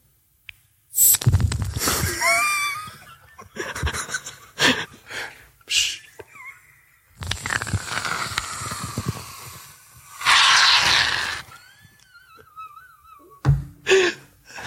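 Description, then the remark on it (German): A voice imitates a waterfall with mouth sounds: bursts of breathy hissing and rushing noise, broken by short pauses, with a few whistly, wavering tones and gasps mixed in. “Das war der Wasserfall.”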